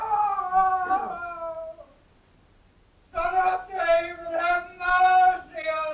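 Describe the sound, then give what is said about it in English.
A madman screams from his prison cell in a long, anguished, high wail that trails off. After a brief silence come several more loud, sustained cries in quick succession, each rising and falling. “What was that cry? The madman screamed.”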